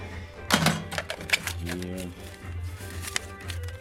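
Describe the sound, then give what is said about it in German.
Clattering and clicking as a cashier sorts a cash box on an antique wooden cash table, with coins and notes being sorted in quick, irregular bursts over a steady low hum; a voice briefly murmurs midway. “Kassierer nimmt Platz, sortiert nochmal die Kasse.”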